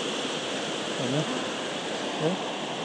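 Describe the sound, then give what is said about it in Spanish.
Hail pours down outside in a steady, dense hiss that holds constant throughout, with a couple of faint, brief voice murmurs underneath. “No, pero mira, será granizo seguro. Joder, la que ha caído, tío.”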